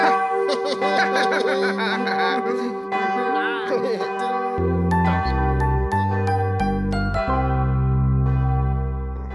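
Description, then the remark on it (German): A cathedral bell, rung by pressing a button, rings out clearly in rich, sustained tones, first as a shimmering wash and then as a series of distinct deep strikes that ring on and fade, with no talking. “Klingt eigentlich ganz hübsch, so eine Glocke.”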